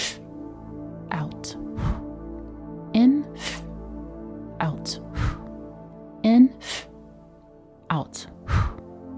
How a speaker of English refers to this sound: So we're going to breathe in with a short, swift breath in, like so. And from our belly, release and blow as hard as you can. Let's practice this breathing exercise. Breathe in swiftly and out.